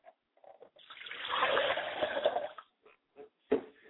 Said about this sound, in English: I like to pour a glass of water for my father's spirit, and I say, Ashe.